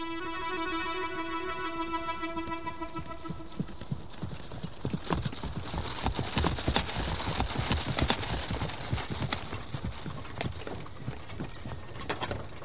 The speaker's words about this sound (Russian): И вот однажды приказал он запрячь лучших своих коней в лучшую колесницу, и поехали они вдвоем с женой в широкую степь развеять тоску по сыновьям.